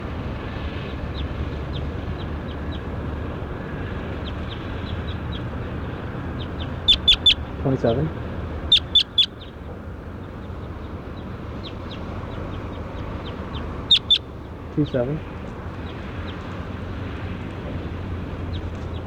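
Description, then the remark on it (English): Sharp, clucking calls of bird 27, a tracked bird being recorded, come in two short clusters, a few rapid notes each, over a steady low rumble of background noise. There is no talking. “That was bird 27 right there.”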